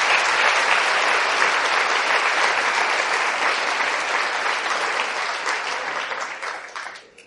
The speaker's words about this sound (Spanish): ¿A quiénes de los que están aquí les alegra que sea canonizado Juan Pablo II? ¿Quién le da un aplauso a Juan Pablo II?